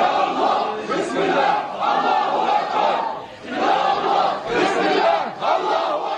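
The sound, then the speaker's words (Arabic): A large crowd in Jerusalem shouts together in loud, dense waves, with surging chants that rise and fall every second or two for the whole stretch and no clear single voice. “تضيق شوارع المدينة بأهلها حين تشتد وطأة المواجهة لتعلن حشودهم الغفيرة أن العاصمة الأبدية لفلسطين لا تعرف معنى الخضوع، وأنهم حاضرون حين البأس وحين يشتد القتال.”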